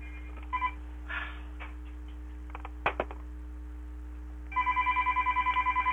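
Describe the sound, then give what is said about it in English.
A telephone rings in rapid repeated electronic trills, starting after a few faint clicks and a sharp knock, then continuing steadily at moderate volume over a low background hum. “There is a phone obviously going on.”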